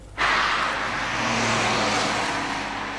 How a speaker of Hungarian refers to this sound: Már reggel 6 órakor jóval sűrűbb volt a forgalom Budapest felé. Sokan inkább hajnalban keltek, hogy elkerüljék a dugót. Igazuk lett. Ez nem egy lámpánál álló kocsisor, hanem maga az autópálya, reggel 8 órakor.